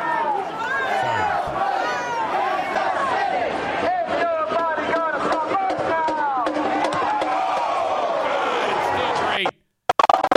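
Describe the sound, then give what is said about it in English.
A large crowd reacts loudly, with many voices shouting and cheering over one another in a dense, continuous roar for about nine seconds before it cuts off abruptly. “Oh, the response by the crowd is perfect.”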